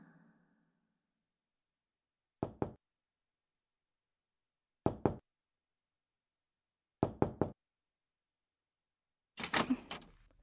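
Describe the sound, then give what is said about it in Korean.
Someone knocks on a door in short clusters of two or three sharp raps, pausing between each set, ending with a louder, rougher burst of noise. Nobody speaks. “어차피 단둘만의 문 앞에서 노크를 왜 하지?”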